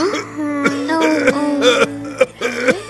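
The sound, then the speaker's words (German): A voice gives a run of rough, throaty coughs, about five short bursts in three seconds, joined by a strained, voiced groan. Moderately loud, like a performed cough. “Das Husten wird überhaupt nicht besser.”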